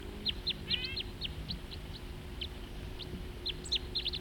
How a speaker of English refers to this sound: And another crossbill flying nearby. Two birds together now, in the same tree.